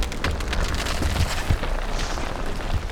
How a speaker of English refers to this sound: With a distant thud, the cavern trembles and the stone stairway collapses.